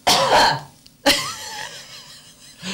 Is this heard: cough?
yes